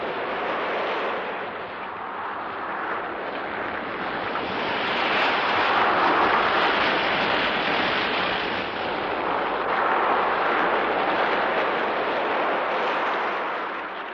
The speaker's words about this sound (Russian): Женщина исчезла, и тут же поднялся страшный ветер. Загрохотали волны, и лодка сорвалась с места. Она то взлетала высоко вверх, то проваливалась глубоко вниз. Такой бури моряки не помнили на своем веку.